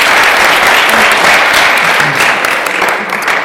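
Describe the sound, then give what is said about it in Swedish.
Steady audience applause for a quiz contestant's final answer, many hands clapping in a dense, continuous wash that stays loud and even for a few seconds, with no voices standing out. “Det var, måste du få en applåd.”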